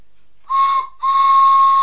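A toy steam train whistle gives two loud, breathy toots: a short one, then a longer held one. Each is a steady mid-pitched tone wrapped in airy hiss. No one speaks.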